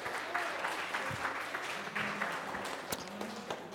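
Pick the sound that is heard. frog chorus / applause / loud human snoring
applause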